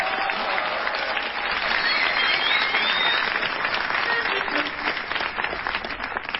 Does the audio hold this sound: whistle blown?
no